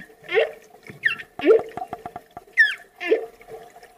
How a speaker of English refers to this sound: That's a whale. It is a whale! Not to be mistaken with the window. That is a whale.